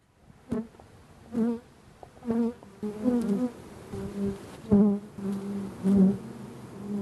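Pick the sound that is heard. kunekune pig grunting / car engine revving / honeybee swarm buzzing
honeybee swarm buzzing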